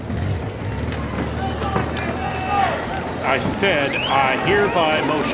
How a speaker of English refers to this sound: Now, our listeners can't see this, but we've just heard all the members of Congress run out the doors to catch a glimpse of him on his motorcycle, leaving Representative Johnson all alone on the floor of the chamber.